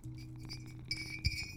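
A water bottle clinks a couple of times with bright, ringing glassy taps over a low steady hum, the sharpest knock landing near the end.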